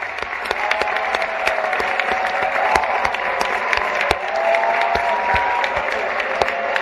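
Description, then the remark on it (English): A room of guests, including dignitaries addressed as Your Eminence, claps steadily for a speech, a dense patter of many hands with scattered cheers and whoops rising over it, sounding like a full room responding enthusiastically. “And then it goes to the room, and listen to them clap for this.”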